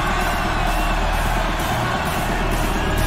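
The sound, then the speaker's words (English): A large crowd in Amsterdam roars and shouts continuously, answering a call to make some noise: a dense, loud wall of cheering and yelling that holds steady for the full few seconds with no pauses. “Amsterdam, who's ready to go crazy tonight? Make some noise.”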